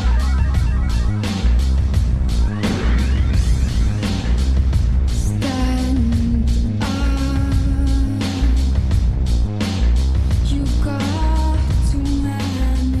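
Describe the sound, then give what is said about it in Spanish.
A loud song plays with a heavy, pounding low beat and dense driving instrumentation, while a female voice sings long sustained notes over it; no one talks. “Mira, nada más escucha cómo entra, por ejemplo, esta canción.”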